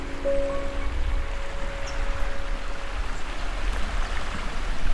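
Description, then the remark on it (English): River water flows and rushes steadily outdoors at Pan Bend Reserve, part of Warrandyte State Park in Victoria, a continuous wash of sound with no talking. A faint low hum sits underneath during the first few seconds. “I'm walking along the river at Pan Bend Reserve, which is part of Warrandyte State Park in Victoria.”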